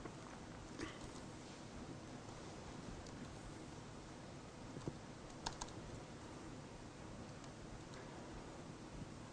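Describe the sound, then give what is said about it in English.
Faint, sparse keystrokes on a computer keyboard, a few scattered taps with short pauses between them, set against a steady background hiss with no one talking, as English text is typed with a predictive typing booster. “And now if I look at some text in this book, I can easily input the same text again with very little typing.”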